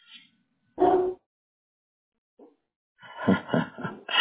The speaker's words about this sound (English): I love their bark. Even their bark is beautiful. Just that deep. They sound so tough.